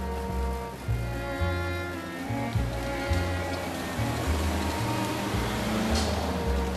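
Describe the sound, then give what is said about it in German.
Busy main-street traffic ambience on Allenby Street in Tel Aviv: a steady, dense wash of noise with a deep engine rumble shifting in pitch, as of vehicles idling and pulling away, with no clear voices. “Ob Kapuzen- oder T-Shirt-Wetter, die Allenby-Straße in Tel Aviv klingt nicht viel anders als Hauptstraßen in Berlin, London oder New York.”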